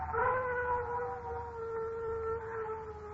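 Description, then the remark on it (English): A dog howls in one long, sustained wavering note for about three seconds, steady, with a low rumbling background and no talking. “Dogs howl when ghosts.”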